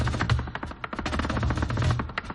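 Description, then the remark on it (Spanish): Rapid flamenco heel-tapping footwork (zapateado) by a woman dancer, a dense, driving stream of sharp percussive strikes that barely pause, steady and loud throughout, with no voices. “Eso es taconeo el bueno.”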